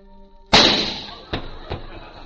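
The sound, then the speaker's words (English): A single loud, sharp gunshot, fired to knock a fly off a dog's tail, cracks out and rings off in a long, hissing decay, followed by two fainter, shorter snaps about a second later. A faint steady hum sits underneath before the shot. “Yeah, well, I'll have you to know I'm the best shot in all Texas.”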